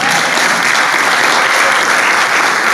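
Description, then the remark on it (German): A crowd applauds four friends, a dense and continuous patter of many hands clapping steadily at an even loudness throughout, with no voices standing out. “Applaus für die vier Freunde.”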